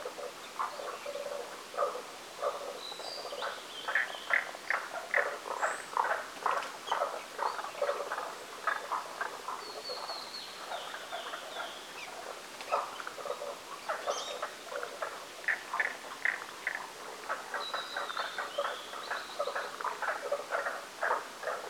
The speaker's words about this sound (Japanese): 姿は見えなかったのですが、調べてみたところおそらくヒキガエルの仲間のようです。